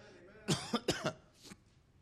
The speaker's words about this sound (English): Excuse me. Battling a bit of a cough, but that's okay.